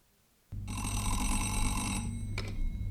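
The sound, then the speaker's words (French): A telephone bell rings loudly in one long, shrill trill, followed by a brief second burst, over a steady low rumble and no voices; the call is from a wake-up service. “Ici le service du réveil. Il est 9h, madame. Qui est à l'appareil ?”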